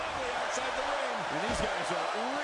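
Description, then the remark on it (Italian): A single heavy thud of a backbreaker on wrestler AJ Styles in the wrestling ring lands midway through, under steady crowd roar with a man's voice talking over it. “Backbreaker su AJ Styles,”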